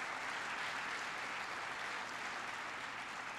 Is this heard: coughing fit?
no